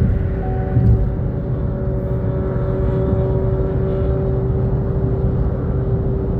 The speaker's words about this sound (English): Watching this motorcycle, he thinks he's in some kind of race or something. Thinks he's in some kind of event, doing all these movements on the highway,